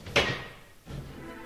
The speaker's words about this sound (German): Die Tür bewegt sich.